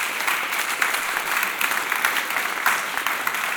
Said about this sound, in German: Dein Applaus.